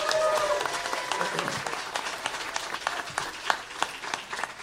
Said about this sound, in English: But there is none of this without you guys being here. So can we just get a little round of applause for everyone who showed up?